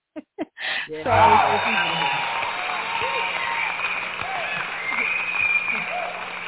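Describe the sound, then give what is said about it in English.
A crowd breaks into sustained applause with scattered cheers, steady and fairly loud for several seconds after a few brief voices at the start. “Let's give her a hand. That's awesome. Applaud.”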